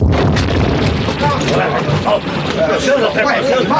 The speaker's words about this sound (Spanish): Una explosión sacude el refugio secreto.